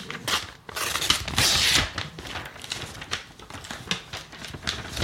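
A paper envelope being torn open and crinkled, a series of short ripping and rustling bursts with one longer tear near the start, no voices.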